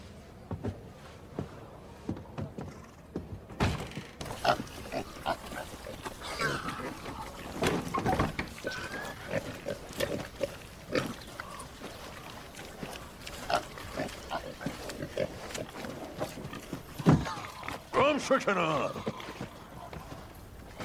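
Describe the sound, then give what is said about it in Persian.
Pigs grunt and snort in a pigsty in a steady, irregular stream, with scuffling and trampling on the ground and a louder burst of squealing near the end. “جسدش توی خوکدونیه.”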